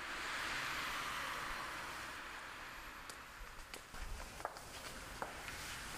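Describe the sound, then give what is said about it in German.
Footsteps of a person walking a few steps outdoors over to the state museum (Landesmuseum), over a steady background hiss, the individual steps becoming clearer and more distinct toward the end, fairly quiet. “Bis zum Museum sind es nur wenige Schritte.”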